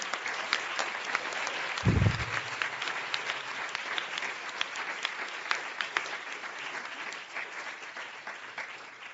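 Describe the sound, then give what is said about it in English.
An audience claps steadily for several seconds for the panelists at an Inforum meeting at the Commonwealth Club, a dense, sustained wash of applause with a brief low thump near the start, fading slightly toward the end. “Everyone, please give our panelists all a big round of applause for being here.”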